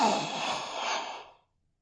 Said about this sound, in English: … ended his sentence in a gasp